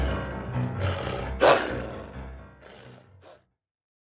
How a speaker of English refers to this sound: get that blasted hound off me.